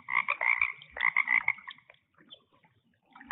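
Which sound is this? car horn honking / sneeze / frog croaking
frog croaking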